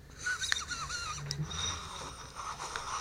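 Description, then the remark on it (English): A steady airy draw on a vape pen from Honey Farm, with faint crackling and thin whistling tones running through a continuous hiss for about three seconds. No voices are heard. “But let's go ahead and hit these pens to start us off.”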